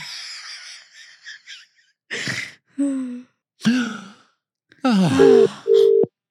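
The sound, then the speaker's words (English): A Skype call ringing tone: a string of bright electronic chimes and bubbly, swooping blips in short bursts, ending on two steady held tones, loud with no one talking. “My ringing worked.”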